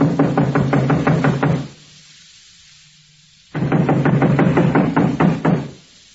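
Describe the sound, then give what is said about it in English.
Two loud bursts of rapid, steady knocking on a back door, roughly eight raps each, separated by a couple of seconds of near silence. No voices. “I'll go around and back and knock.”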